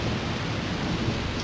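A steady hiss of heavy rain fills the scene, with a low, dense rumble of thunder underneath. Loud and continuous, with no voices present.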